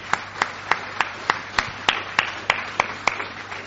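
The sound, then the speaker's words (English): Applause as a steady, evenly spaced run of about a dozen sharp claps, moderately loud, over a faint low hum with no talking. “Let's give Jack a round of applause.”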